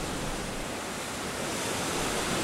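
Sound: stormy sea waves crashing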